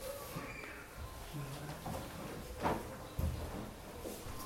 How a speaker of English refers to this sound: And you close that door.